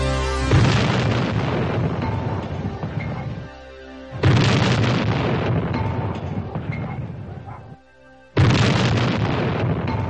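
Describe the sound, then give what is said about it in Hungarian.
Three heavy cannon blasts boom out about four seconds apart, each a loud explosion followed by a long rolling rumble that fades before the next shot. “Marcipán király és kísérete lúra kapott, és heves ágyú dörgés közepette átvágtattak mi bajot szultán országába.”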